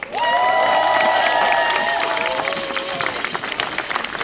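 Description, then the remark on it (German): At a strike rally, a crowd applauds the colleagues who came to strike despite their school management, with dense clapping mixed with cheering and high whistles or shouted voices rising over it in the first seconds, then the clapping continues on its own and slowly thins. “Und deswegen nochmal extra Applaus für die Kolleginnen, die trotz dieser Schulleitung heute hier da sind.”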